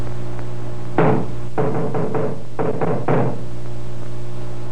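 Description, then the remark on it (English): A sergeant knocks on a wooden door: one firm knock, then a quick run of three, a pause, and another three, fairly loud over a steady low hum. “Now, give a knock, Sergeant.”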